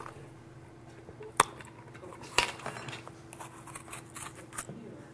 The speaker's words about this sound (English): Remove paper from top of jar.